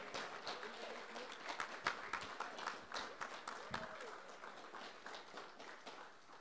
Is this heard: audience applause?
yes